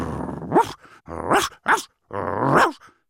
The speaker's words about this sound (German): Bodo kläfft und sprintet zu Mats, um ihn endlich aus dem Tiefschlaf zu bellen. Er schlägt ihm sogar einige Male mit seinem langen Lappen quer durchs Gesicht.